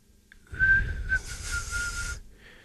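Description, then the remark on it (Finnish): A person whistles an imitation of a wagtail for Radio Veiki: one steady, fairly high tone held for under two seconds with breathy hiss around it, followed by a brief faint note. “Västäriäkki.”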